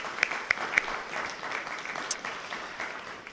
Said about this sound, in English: Let's have a round of applause for a wonderful program.